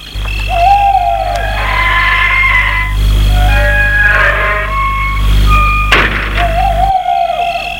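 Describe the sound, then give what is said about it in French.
A house gate swings open to let a car out, with long, wavering metallic squeals and creaks, followed by a sharp clunk, all over a steady low rumble like an idling engine. No one speaks. “Un portail qui veut ouvrir pour sortir sa voiture.”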